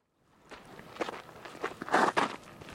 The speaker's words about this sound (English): We walk down a crushed limestone slope to look into a pit of reddish-brown rock